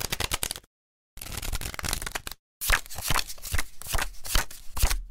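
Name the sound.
shuffling playing cards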